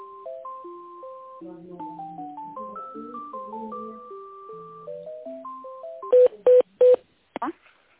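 A thin electronic melody of steady beeping notes plays while a phone call is transferred to the accounting department, then three quick touch-tone dialing beeps sound in close succession as extension 122 is keyed in.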